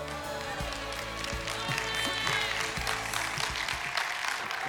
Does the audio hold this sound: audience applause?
yes